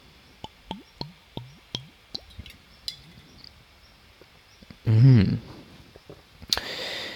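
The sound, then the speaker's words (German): Sipping and swallowing water from a glass: a quick, steady run of soft wet gulps, followed by a louder breathy exhale and a brief rustle at the end. “Jetzt muss ich natürlich das irgendwie in das Gespräch mit einbauen, dass ich hier einen Schluck trinken will, weil sonst wird die nächste halbe Stunde, die ich hier versuche zu sprechen, natürlich doof.”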